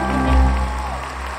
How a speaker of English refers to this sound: Everyone broke out into wild applause. They loved it.